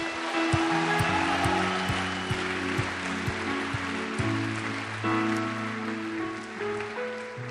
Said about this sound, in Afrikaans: Kom ons gee die bruidegom een lekker hande klap.